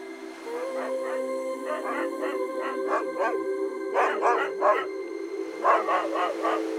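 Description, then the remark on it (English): Several dogs bark in quick bursts of three or four, over a steady, drawn-out howling tone. The barking comes in clusters with short pauses between, loud. “As the days went on, the dogs and I explored the island.”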